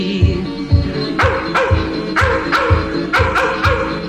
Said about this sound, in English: The grass is dancing wildly in the meadows to the tune of hounds a-baying from afar.